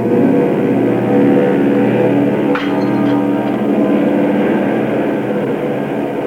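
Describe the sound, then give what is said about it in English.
A loud, steady roar of an airplane passing low overhead fills the whole stretch, with a brief sharp crack cutting through near the middle. “Here comes the plane.”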